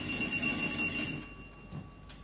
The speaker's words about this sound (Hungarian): Telefon.